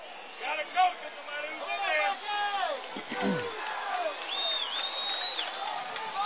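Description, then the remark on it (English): A large stadium crowd at an American football game roars steadily for several seconds, a dense wash of overlapping shouts, whoops and cheers with no single voice standing out. “Crowd is loud.”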